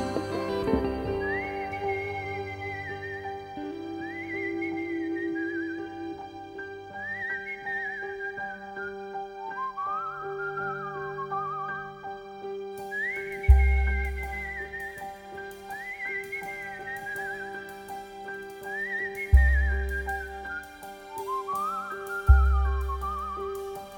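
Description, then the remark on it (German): A cheerful tune is whistled in short, gliding phrases that repeat, riding over instrumental backing music with a few deep bass thumps. No voices. “Pfeift Angst ein Liedchen, dann wird sie vergehen.”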